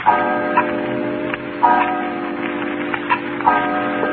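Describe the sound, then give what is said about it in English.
A clock chimes steadily, its ringing tones repeating every second or so and sustaining under a faint hum, moderately loud with no voices. “You let the clock scare you.”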